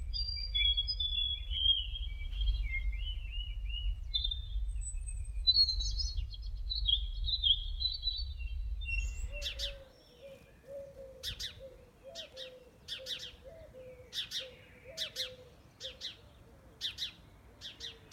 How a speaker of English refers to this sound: the Daily Connect played the bird song